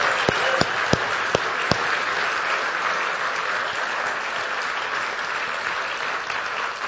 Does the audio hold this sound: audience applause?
yes